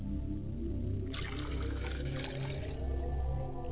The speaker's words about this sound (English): Libation is being poured at the same time. I pour libations to the east. I say, Ashe. Libation is being poured to the west, and I say, Ashe.